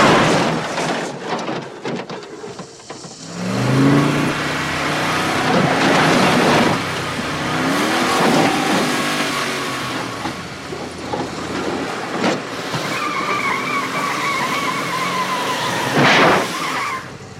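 A car engine revs and roars while tires squeal and skid in sharp, high-pitched bursts, with loud, gritty road noise throughout and no one speaking.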